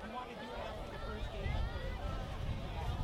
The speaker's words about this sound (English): And the wind continues to blow in here. You can slightly hear it on our crowd mic.